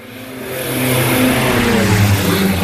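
A small propeller airplane drones as it flies low over the area, dropping small cardboard boxes at precise GPS points, each releasing a few dozen sterile male flies; its engine hum rises and swells steadily louder over a few seconds, a buzzing harmonic tone with no voices.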